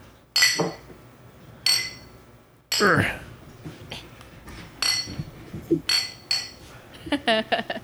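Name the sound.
glasses clinking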